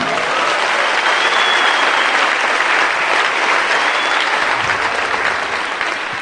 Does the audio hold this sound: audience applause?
yes